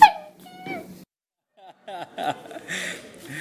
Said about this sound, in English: This is your new puppy, Jessie. She's not used to noise like this. Just need to keep quiet. She's not used to people. Not yet. It's the puppy from the dog.